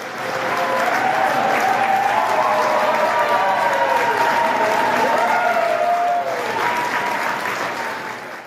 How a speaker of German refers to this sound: Es ist in erster Linie ein Jubel der Erleichterung gewesen, denn man hat hier tatsächlich 2,5 Wochen lang und aber eigentlich ja auch schon die Jahre davor sehr stark gerungen, hier Ergebnisse zu erzielen